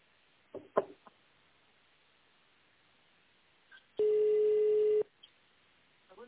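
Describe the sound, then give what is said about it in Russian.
A single steady telephone ringback tone sounds for about one second while waiting on the line after an automated attendant asks to dial an extension or wait for the secretary; a flat low-pitched hum over a muffled phone line, preceded by a few soft clicks and thumps. “В тональном режиме наберите добавочный номер абонента или дождитесь ответа секретаря.”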